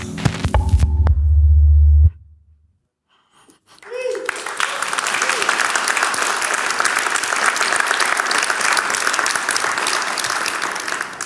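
A deep droning hum cuts off into a short silence, then an audience at an event bursts into steady, dense applause for a rap performer that keeps going at full strength until the end.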